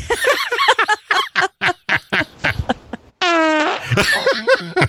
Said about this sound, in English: See, if it was a hot chick fart, maybe I'd pay something for it. That's a good one.